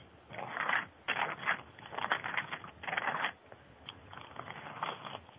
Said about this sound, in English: We can hear the turning of the page, so okay, you're busy.